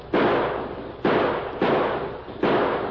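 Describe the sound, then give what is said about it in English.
Four loud gunshots ring out at uneven intervals from riders coming fast and shooting hard, each a sharp, broad crack that trails off into a lingering rumbling decay before the next one hits. No one speaks. “Look at those guns flashing. They're coming fast and shooting hard.”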